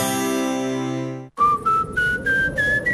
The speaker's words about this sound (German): Durch Ihre Haustür pfeift's, dann ist sie wohl nicht ganz dicht.